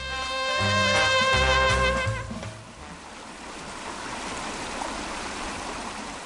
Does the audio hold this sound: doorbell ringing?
no